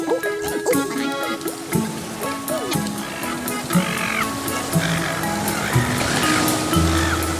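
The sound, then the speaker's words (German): Steady wash of ocean waves far out at sea, where fishermen haul in their nets and sort the catch, fills the scene, a continuous rushing swell with a low engine-like hum and scattered bird cries drifting above it. No one speaks. “Weit draußen auf dem Meer holen die Fischer ihre Netze ein und sortieren den Fang.”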